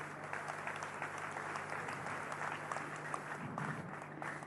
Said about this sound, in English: Let's clap for Jesus.